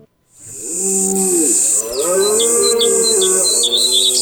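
Birds chirp in quick repeated bursts, loud, while a deep, drawn-out lowing call with a wavering pitch runs steadily underneath. Nobody speaks.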